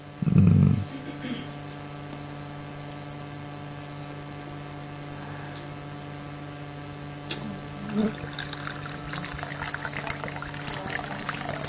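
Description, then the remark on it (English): Water pours steadily into a container for several seconds, a continuous trickling wash over a constant low electrical hum, with a brief loud thump right at the start. “But what was the water doing? Pulling, you know everything, pulling in the thing.”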